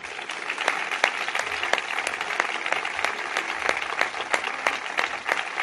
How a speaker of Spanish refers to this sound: Sé que es tarde, pero si quieren pueden aplaudir.